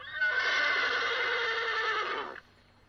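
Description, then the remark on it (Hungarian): A single loud horse whinny lasting about two seconds, a sustained, quavering neigh that cuts off abruptly, at night, with no voices around it. “Szerettem volna aludni, de a lovak egész éjjel rugdalóztak, nyihároztak.”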